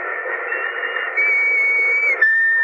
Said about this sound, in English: Remember that whistle? Yes. What about it? I think it might prove no end valuable in this particular emergency. Anyhow, it's worth a try.